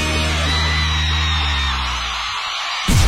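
A loud, drawn-out yell from people shouting together, held for nearly three seconds before trailing off, then cut by a sudden sharp burst of noise at the end.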